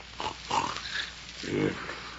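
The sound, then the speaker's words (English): A man snores in rough, grunting bursts while asleep in the hay of a barn's hayloft at dawn, a few nasal snorts followed by a longer, louder rasping snore near the end, fairly prominent. “Oh, for one thing, the birds, and another, you're snoring.”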